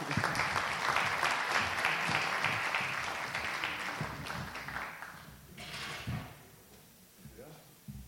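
A crowd applauds steadily with dense, crackling claps for several seconds, the clapping gradually thinning out and fading toward the end, with a few scattered thumps and rustles.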